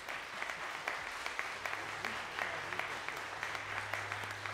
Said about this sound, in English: We should applaud them. Let's applaud them.